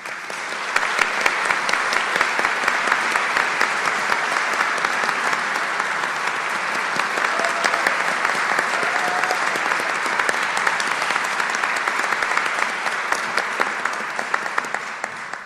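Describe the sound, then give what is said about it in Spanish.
Sustained applause from a large audience at a council meeting, for an electoral process and to bid farewell to a council member, a dense, steady wash of clapping hands that stays loud and even for the whole stretch, with no talking over it. “Y bueno, pues un fuerte aplauso por este proceso electoral que también la FEU está llevando”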